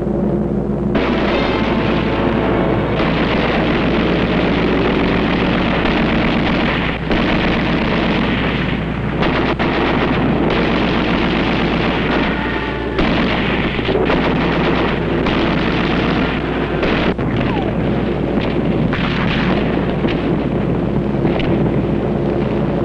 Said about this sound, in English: Yes, I think they're coming over now. Can we get a shot of those planes?